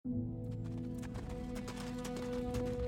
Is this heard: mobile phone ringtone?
no